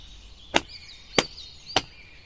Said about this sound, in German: Jetzt klatsch mal mit deinen Händen auf deine Beine.